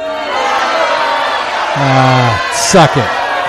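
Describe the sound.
A large wrestling crowd at Raw roars steadily throughout, cheering and jeering, with individual voices shouting and whooping above the din, including a sustained bellow midway and a burst of descending yells near the end.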